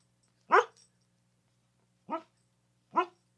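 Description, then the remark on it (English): A female studio dog in a studio lets out three sharp barks at uneven intervals, with short gaps of quiet and a faint steady hum underneath. No one speaks. “Ursa, the studio dog, has finally made an appearance into the studio”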